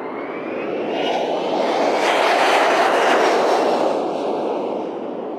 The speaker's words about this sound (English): Oh, by the way, you know, you just heard the Hawaiian Airlines jet take off. It was bound for Seattle, well, San Francisco, Los Angeles, Las Vegas, New York City.